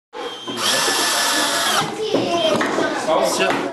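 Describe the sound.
Electric drills whir loudly and steadily, with a few sharp hammer knocks cutting through the noise, and faint voices in the background, as people build starling birdhouses in a room of a church diocese education centre in Salavat.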